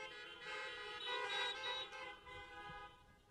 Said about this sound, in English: Now you can honk your horn there.